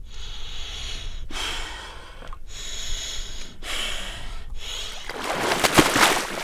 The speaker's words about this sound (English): … lowers into the water. You can feel the coldness through her breathing.